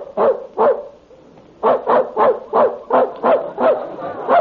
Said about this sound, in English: There's that dog in the next room barking again. Kept me awake half the night. Got a good mind to complain to his owner.